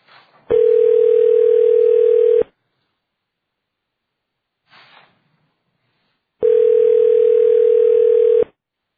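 A telephone dial tone while hanging up and dialing back into a conference call sounds as two long, steady, fairly loud electronic tones, each about two seconds, separated by a pause with a faint click, with no voices.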